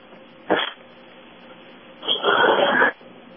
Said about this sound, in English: Nobody there. I heard somebody breathing, but that's it.